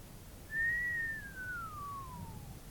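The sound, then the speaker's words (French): A single long, thin whistle of astonishment that starts high, holds briefly, then slowly slides downward in pitch over about two seconds, clear and alone against quiet background hiss. “L'autre, Pantois, poussa un long sifflement frêle.”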